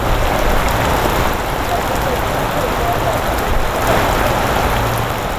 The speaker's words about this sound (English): But this deluge of heavy rain has caused life-threatening flash floods throughout parts of northern New South Wales and southeast Queensland.